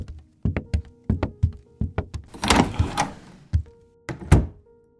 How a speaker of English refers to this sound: Angelica turns around and quietly bolts the door.